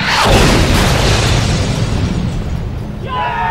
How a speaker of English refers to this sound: A few moments later, the rig shuddered as another missile was launched from the roof pod, and this time the APC was hit dead center.